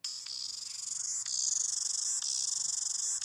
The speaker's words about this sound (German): Immer schneller, immer schneller. Hau fest, eine Zikadenparty. Das könnte echt ein Vogel sein. Was ist das denn? Das sind hier aber Zikaden.